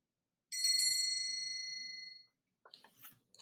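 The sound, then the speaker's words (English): A school bell rings with one bright, clear strike that hangs in the air and fades over about two seconds, followed by a few soft clattering knocks. No one speaks. “When the bell rings, he'll run out to wait for the bus.”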